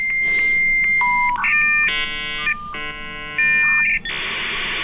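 A dial-up modem connection: a steady high tone and stepping beeps give way to harsh, stacked buzzing chords, alternating twice before ending in a loud wash of hissing static. No one speaks.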